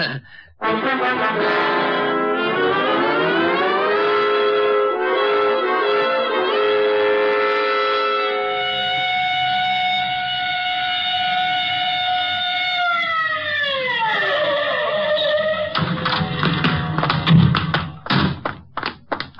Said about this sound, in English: All right, Otis. You can use the siren.